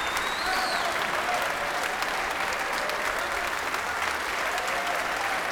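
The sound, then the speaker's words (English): Sustained applause from a sold-out concert crowd and the orchestra at City Halls in Glasgow during Celtic Connections as Bela returns to the stage: a dense, steady wash of clapping with occasional whoops, holding at an even loudness throughout with no speech. “Here he comes, at quite a canter, getting applauded by the orchestra as well as by the sold-out crowd here at City Hall's.”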